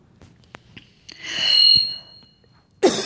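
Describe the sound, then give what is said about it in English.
A harsh, wheezy cough from a tickle in the throat, into a microphone, swells and fades over about a second, followed by a few small throat clicks and a sudden sharp burst of another cough. No one speaks. “When you've got a tickle in your throat, there's no way to get away from the cough.”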